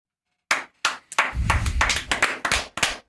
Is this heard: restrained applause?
yes